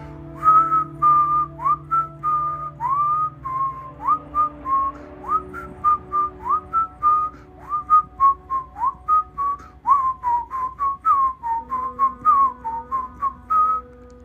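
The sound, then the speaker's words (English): Someone whistles a tune of short, clear notes in a steady, bouncy rhythm, with pitch gliding up and down over a faint low hum, and no talking throughout. “That was until I heard someone whistling. I think it was that song from Kill Bill.”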